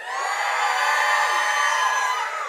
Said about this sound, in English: Let's try it again so they hear us, like, across the street. We hear you. Shout of joy.